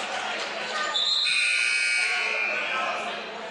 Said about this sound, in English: And with that, you heard the buzzer.